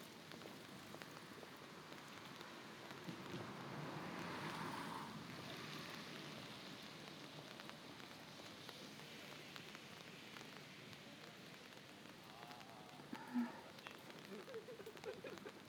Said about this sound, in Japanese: 寒くない？冬の日の雨、雪より寒く感じる。